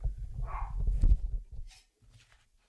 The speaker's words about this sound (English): Yes, there's a dog outside the studio door, and it looked like something out there was irritating that dog.